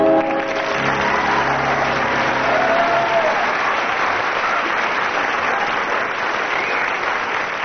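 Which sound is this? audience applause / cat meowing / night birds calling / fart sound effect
audience applause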